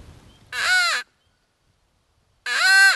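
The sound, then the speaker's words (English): Two loud, harsh caws from a hand-blown crow call, used by a turkey hunter to try to make roosting turkeys gobble and give away their roost, each about half a second long with a short pause between, clear with no talking. “Now I'm going to use a crow call and do basically the same thing.”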